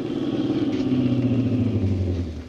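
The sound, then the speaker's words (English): A car engine hums steadily, then its pitch drops as the car slows and the rumble fades away as it comes to a stop for a hitchhiker thumbing cars by the road toward the highway out of town. No one speaks. “As I hiked along, I kept thumbing cars. The fourth one slowed down and stopped.”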